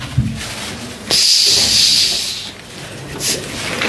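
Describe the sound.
A voice imitates the rattling, snake-like hiss of a peacock's opened tail feathers moving: one sustained breathy hiss for about a second and a half, loud, followed by a brief softer hiss.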